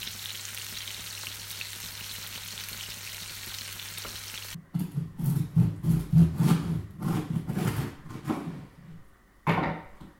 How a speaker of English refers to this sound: I'm chopping up, I'm just slicing some bread to put it in the toaster to make some toast.